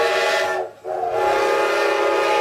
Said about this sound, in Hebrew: מה אני שומעת? צפירה של רכבת. צפירה של רכבת? אז מה אני יושבת? זאת הרי הרכבת האחרונה.